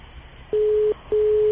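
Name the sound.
telephone line ringing tone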